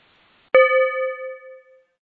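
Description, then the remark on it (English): A single bell is struck once during a guided mindfulness exercise, clear, its bright metallic tone ringing out and slowly fading over more than a second. No one speaks, and there is quiet before the strike. “I'll ring a bell when there's only 1 minute left so you can begin to wrap it up.”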